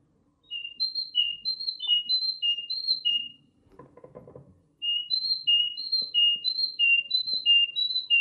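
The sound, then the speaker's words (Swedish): A whistled imitation of a great tit's song: clear, high two-note phrases repeated in a steady seesaw rhythm, in two bursts separated by a short rustling noise, with no talking. “I och med att den går in och visslar en talg också till exempel som låter så här.”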